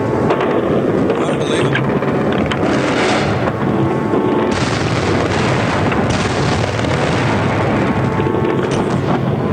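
Distant explosions from cruise missile strikes rumble in a continuous, heavy roar as buildings to the south are destroyed one after another, with deep booms rolling over one another and a dense wash of noise that never lets up; at least 40 cruise missiles have hit.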